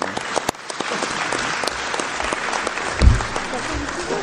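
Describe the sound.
A group of people at a municipal council meeting applauds steadily for a member's 40th birthday, many hands clapping in a dense, continuous patter that holds for several seconds, with a few voices murmuring underneath.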